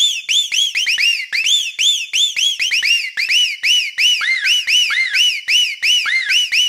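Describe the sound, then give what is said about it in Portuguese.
A treble test tone blasts from a car sound system: rapid, loud, high-pitched electronic chirps that swoop up and down in overlapping arcs, repeating continuously with no talking. “Agora vamos testar o som, testando os agudos.”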